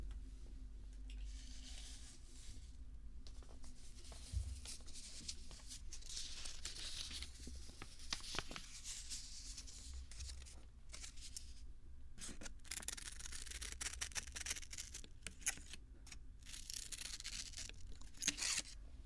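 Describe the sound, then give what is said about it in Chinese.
Scissors cutting paper, a steady run of crisp snips and rustling, papery crunches over a low background hum, with no one talking. “剪的是它，是也可以用一下剪纸张，我拿一下。”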